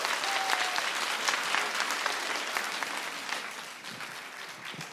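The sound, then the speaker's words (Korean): An audience at a live EBS radio webtoon show applauds steadily for several seconds to welcome an EBS voice actor, a dense wash of many hands clapping at once that tapers slightly toward the end, with no voices standing out. “박수로 환영해 주세요.”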